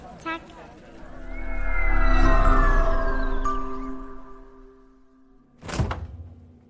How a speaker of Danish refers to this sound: Kan du høre, hvad det her er? De fleste hører den her lyd mange gange hver dag. En køleskabslåge, der åbner.